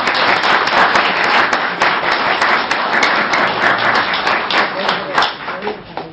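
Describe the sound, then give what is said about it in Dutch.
A crowd of people applauding steadily in thanks to the two organists, a dense wash of many hands clapping at once that stays loud and even from start to finish, with no voices standing out. “Dus zullen we dat onderstrepen met een applaus.”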